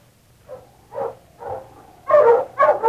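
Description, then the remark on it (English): A dog barks and yaps, five short, sharp bursts that grow louder and quicker toward the end, over a faint low hum, with no one talking. “Shut up, you yapper, no good hound.”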